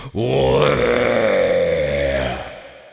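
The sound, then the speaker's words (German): A human voice imitates a red deer stag's rutting bellow: one long, deep, guttural roar with a rough, strained tone, held loudly for over two seconds before fading out. “Und damit beide hin und wieder von mir hören, werde ich jetzt röhren.”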